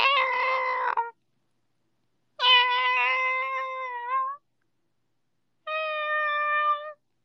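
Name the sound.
cat meowing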